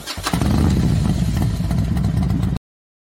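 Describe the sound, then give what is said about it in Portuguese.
A motorcycle engine roars to life and revs loudly with a rough, throaty rumble, sustained for a couple of seconds before cutting off abruptly, played as a channel's intro jingle. No one speaks. “Toquei aí o vrum-vrum para vocês, a nossa vinheta aqui do canal.”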